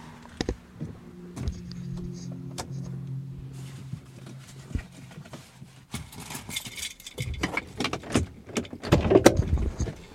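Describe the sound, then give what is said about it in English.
A car interior hums steadily while a few sharp clicks and thunks of a car door sound as a person climbs out of the car, followed by louder rustling and scuffing steps outside. “I'm gonna get out of the car.”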